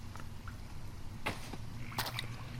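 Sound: water dripping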